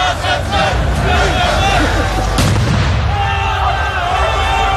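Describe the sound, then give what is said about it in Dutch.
Loud firework bangs crack out over a noisy street crowd of about 500 people protesting against an asylum seekers' centre, with protesters throwing fireworks at police: a few sharp blasts amid steady shouting, whistles and murmuring voices. “Demonstranten gooiden onder meer met eieren en vuurwerk naar de politie.”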